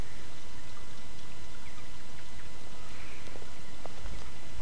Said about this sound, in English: Hear that water going down the drain?